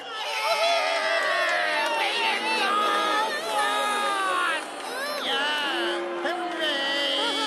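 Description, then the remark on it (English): A crowd of skateboard fans cheers and shouts loudly to pick Slider as winner of a skate-off, many overlapping voices whooping and yelling steadily for several seconds, with high excited calls rising above the din. “The crowd has spoken.”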